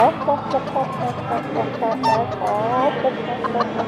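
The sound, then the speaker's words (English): A person does a vocal chicken impression for about four seconds: a run of bobbing, warbly clucks and squawks, fairly loud, with no other sounds. “Well, I'm about to say chicken, because I'll go...”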